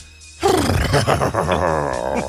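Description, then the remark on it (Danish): A person on the Danish radio show Mænd med slips on Radio 100 imitates a horse's whinny with a loud, wavering, pitch-sliding vocal neigh lasting about two seconds, breathy and strained, with no other talk. “Dit hestevrinsk.”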